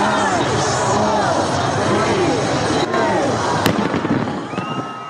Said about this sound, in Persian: در شهر سیدنی استرالیا با وجود ثبت بلندترین آمار ویروس کرونا با آتشبازی از سال 2022 استقبال شد.